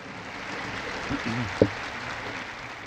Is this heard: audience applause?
yes